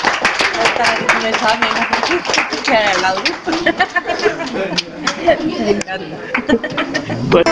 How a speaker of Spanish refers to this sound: ¡Buenos días y bienvenidos! Un aplauso les damos, hombre.